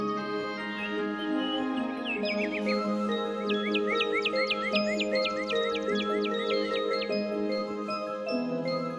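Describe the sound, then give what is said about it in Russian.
Birds sing in quick, repeated high chirps and trills, bright, layered over a steady, sustained musical background that continues throughout. “Весенний день звенит, поет травинкой каждой на лугу, и птички сутки напролет поют гимн солнцу самому.”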